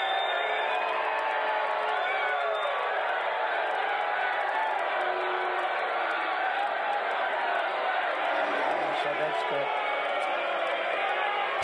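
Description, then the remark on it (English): A large crowd boos a speaker at a speech loudly and continuously, a dense roar of voices that holds steady for the whole stretch with occasional shouts rising out of it, from a booing compilation by Decoding Fox News. “A really nice little booing compilation from Decoding Fox News.”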